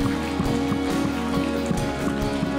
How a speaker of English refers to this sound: Keep on clapping. Come on, friends.